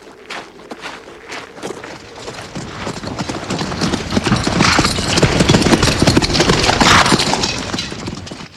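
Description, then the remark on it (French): Hooves of a ridden horse clip-clop in a quick, steady rhythm, growing louder and denser as the animal approaches, with no voices over the sound. “Mais la jeune fille l'a entendu et l'a rejoint à cheval.”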